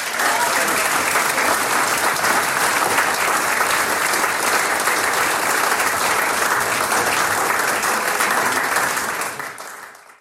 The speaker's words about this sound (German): Jetzt kriegst du noch einmal einen Applaus und dann freuen wir uns auf dein zweites Stickel ein bisschen später.